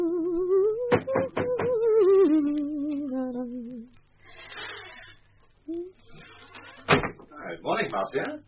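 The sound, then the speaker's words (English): A door opens with a few sharp latch clicks and rattles as someone comes in humming a melodious tune, followed by quiet shuffling and another firm knock-like thud as people talk. “Did I hear a melodious humming as I came in by the door?”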